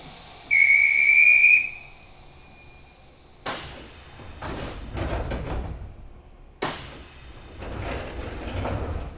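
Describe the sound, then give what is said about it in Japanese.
A sharp, shrill platform whistle blows for about a second, followed by two heavy sliding thuds of the doors of an express train bound for Tenjin closing a few seconds apart, with rumbling station noise in between. “扉が閉まります。ご注意ください。”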